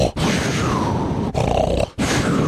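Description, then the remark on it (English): A voice imitates abrupt snoring: loud, rough, gravelly snorts that cut off suddenly, three bursts separated by brief sharp silences, with a low throaty rumble throughout. “And then she does the old abrupt snoring, which is...”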